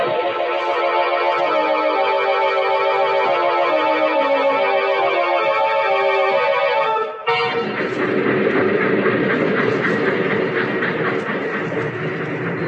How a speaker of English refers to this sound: It's so dark here. This is just a way station. The train only stopped here to let us off. Otherwise, it goes right through.